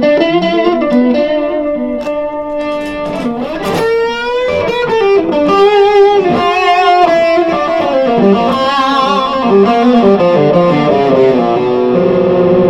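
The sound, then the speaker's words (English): An electric guitar plays a fluid lead line through a high-gain overdrive pedal that stops just short of distortion, thick and sustained with a smooth, saturated edge, steady and loud throughout with no voices. “So I would call that a high gain overdrive. It doesn't quite get into distortion, but it can be very smooth”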